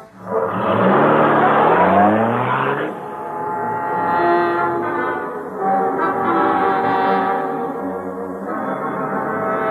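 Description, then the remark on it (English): A car engine roars and revs upward in rising sweeps as it accelerates, then settles into a steady, droning hum that holds for several seconds. “He's getting in a taxi. Trail him, Kato. Don't lose sight of him. Let's go.”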